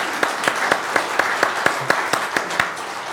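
group applause

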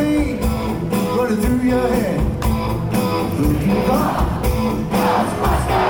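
concert crowd cheering

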